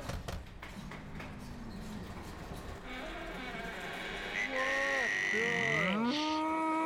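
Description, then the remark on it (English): A bull bellows in long, drawn-out moos whose pitch wavers and bends, rising and sliding through several calls. Loud, with no talking over it. “It's a bull! And I think it's from Germany!”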